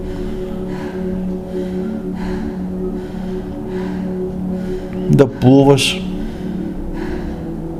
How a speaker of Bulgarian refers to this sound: Да се довериш на тази смелост, която сега се ражда от прегръщането на страха в тази динамична, дихателна бастрика медитация, дълбоко, мощно бастрика дишане.